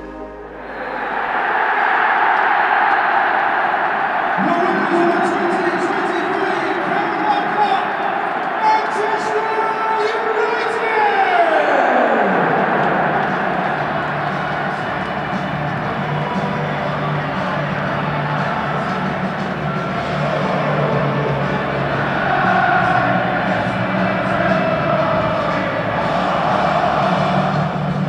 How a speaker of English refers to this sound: that was the sound of the final whistle at Wembley Stadium as Manchester United won the EFL Cup.